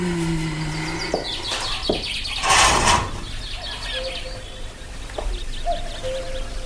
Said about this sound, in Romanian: Ce frumos este afară. Păsările au început cu limbuția lor. Cucu s-aude cântând. Soarele răsare aurind munții. Cerul senin.